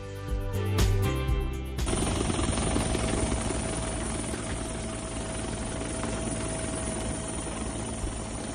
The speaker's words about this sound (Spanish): En este mismo helicóptero que escuchamos, continúa la búsqueda de un montañero leonés que desapareció hace ya 2 días en los picos de Europa.